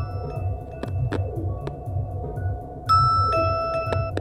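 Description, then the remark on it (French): A telephone rings with steady electronic tones that jump louder and brighter partway through, over a pulsing low hum and a few sharp clicks. No one speaks. “Tiens, d'ailleurs, le téléphone sonne, je crois que c'est lui.”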